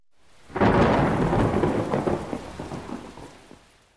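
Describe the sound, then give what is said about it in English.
A loud thunderclap of a thunderstorm bursts in and rumbles on over steady heavy rain, slowly fading away while the downpour continues, with no voices. “That evening, around dinner time, thunder shook the castle and lightning zigzagged across the sky.”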